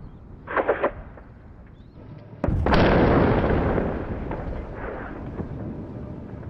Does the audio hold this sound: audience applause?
no